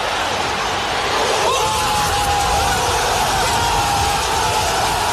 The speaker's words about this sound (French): Et vous allez entendre la réaction des supporters marseillais. T'étais au cœur du COP.